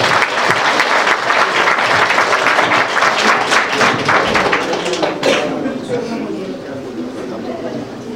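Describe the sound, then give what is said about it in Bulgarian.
An audience applauds with dense, steady clapping, loud and sustained for several seconds before easing off slightly toward the end. “Много успехи, аплодисменти.”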